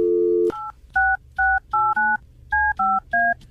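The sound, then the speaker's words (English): A brief dial tone hum gives way to a quick, evenly paced series of about eight telephone keypad dialing beeps, each a short two-pitched tone, as a phone call is placed to a contest winner; clear with no voices. “So if your phone starts ringing, now is the time to answer it.”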